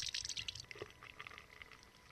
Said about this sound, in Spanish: Tranquilo, tranquilo, doctor. Le sirvo agua.